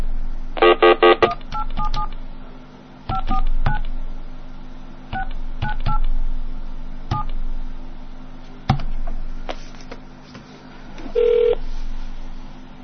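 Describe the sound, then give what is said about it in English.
A rapid series of touch-tone dialing beeps, short bright dual-tone bursts in an irregular rhythm, over a low steady line hum with faint clicks between presses and a final longer tone. “Hold on, I'll call him back and get it. Okay, let me flash over again.”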